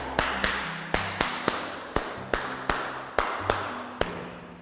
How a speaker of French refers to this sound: Très bien. Applaudissons.